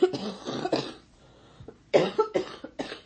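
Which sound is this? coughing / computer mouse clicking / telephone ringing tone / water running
coughing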